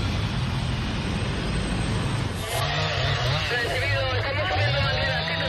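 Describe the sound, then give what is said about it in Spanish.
A steady, loud roar of firefighting seaplane engines and helicopter rotors mixed with the rising and falling whine of chainsaws cutting firebreaks at a wildfire in the south of Ávila province, Spain, with indistinct voices murmuring underneath throughout. “El sonido hasta que cayó la noche ha sido este, el de los helicópteros, los hidroaviones, las motosierras que intentan crear cortafuegos, barreras para evitar que las llamas se extiendan.”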